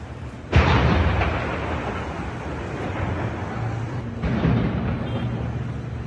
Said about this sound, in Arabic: الضاحية الجنوبية تحولت إلى كرة من النيران، أصوات انفجارات غير مسبوقة سمعت في معظم المناطق اللبنانية، وصواريخ تدميرية أطلقتها الطائرات الإسرائيلية عند السادسة من عصر أمس على دفعات دمرت 4 أبنية سكنية في حارة حريك في خلال 3 دقائق.